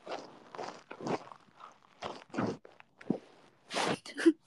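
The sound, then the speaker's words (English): A pet breathes with its nose against the bottom of a phone, where the microphone is, making a run of raspy, noisy puffs and snuffles in an uneven rhythm, fairly loud, with no talking. “I don't know if you guys can hear her breathing.”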